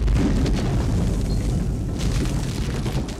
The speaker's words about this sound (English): The roof lifted in the air and disintegrated as a blue and white column of fire erupted from the building. The 3 men inside were instantly incinerated. A mile away, Dorothy Hamm was thrown out of her bed by the violent explosion.